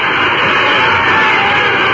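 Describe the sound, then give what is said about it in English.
Dense, steady wash of applause from a crowd of several thousand people gathered at the state capitol for a final campaign speech. The applause is loud and unbroken for the whole stretch, with countless overlapping claps blurring into a hiss-like roar and swelling slightly midway. “Wait for the applause to build.”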